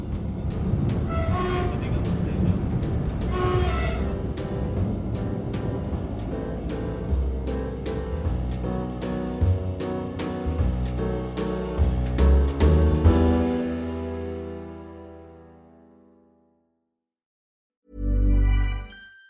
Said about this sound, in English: Another 7-hour journey back to Paris, and another change, this time in Limoges. But it was time to go, and so I hopped back on the train.